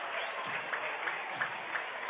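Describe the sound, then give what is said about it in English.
A baseball stadium crowd, many fans on their feet, cheers in a steady, dense roar for a full-count pitch with two outs in the top of the eighth, with faint rhythmic claps rising about three times a second. No one speaks over it. “The crowd is lighting up right here. A lot of fans on their feet.”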